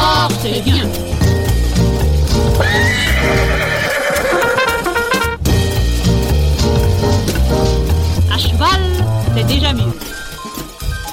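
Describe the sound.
A horse gallops at a steady, driving pace, with loud whinnies rising out of a dense, continuous layer of sound. Voices can be heard in the mix throughout.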